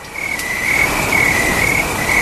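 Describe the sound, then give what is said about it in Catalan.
A dense chorus of crickets chirps steadily in a high, continuous trill, fairly loud, with a faint background hiss and no voices. “En fi, doncs, si podem posar uns segons de sons de grill, sisplau, Ernest.”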